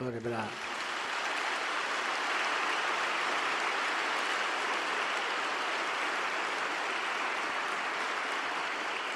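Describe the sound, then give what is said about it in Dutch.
A large crowd breaks into sustained applause for the sisters of Mother Teresa, a dense, steady roar of clapping that lasts the whole clip after a brief voice at the very start. “Dat we allen samen een applaus geven voor deze zusters.”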